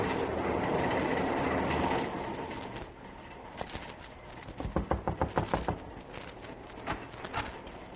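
train running on rails

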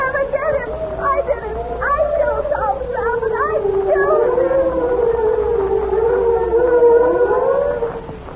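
police siren approaching

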